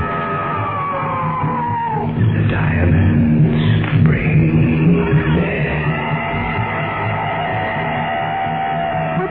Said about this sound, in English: Just a wounded animal screaming out.